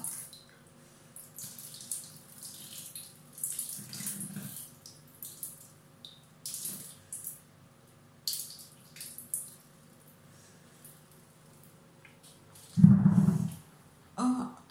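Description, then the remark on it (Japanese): Hot water pours steadily from a bath faucet, a continuous, echoing splashing hiss with a few louder bumps and knocks near the end. “お湯も出たからシャワーに直します。”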